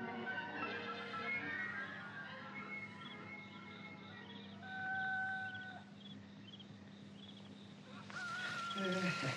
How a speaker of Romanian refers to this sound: Cocoșii vestesc miezul nopții.